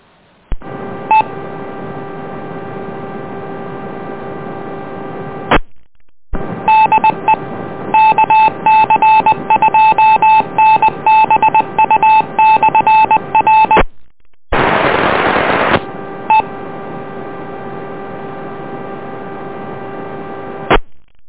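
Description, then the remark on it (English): Radio repeater tones over a narrow, tinny channel sending back a local call sign: a steady tone, then a long run of rapid electronic beeps, a short burst of static hiss, and the steady tone again. “Ah, we have a call sign coming back locally.”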